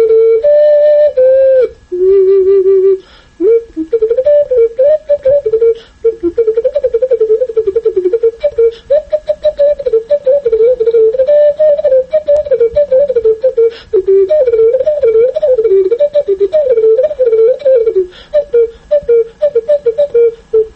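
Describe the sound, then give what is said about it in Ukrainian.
A powerful, massive clay cuckoo whistle from Kosiv, a traditional pottery whistle of the Hutsul region, blown loudly with no talking: a few held notes at first, then a long, continuous warbling run of mid-pitched, flute-like tones rising and falling quickly. “Також зозуля на Гуцульщині, в інших районах, де було гончарство, це з незапам'ятних часів, власне, вона завжди звучала.”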